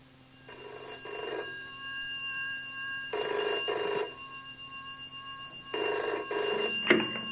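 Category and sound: household object, telephone ringing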